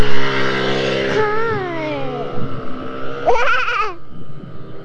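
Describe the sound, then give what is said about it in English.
A motorcycle engine drones steadily on a street, its pitch sliding downward as it passes, then a brief burst of wavering revving before it fades into street background. “We almost got in front of a motorcycle.”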